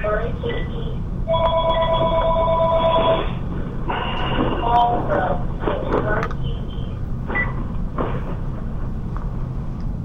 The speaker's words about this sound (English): I don't know whose phone that was, but star six mutes your phone, and then star six will unmute the phone.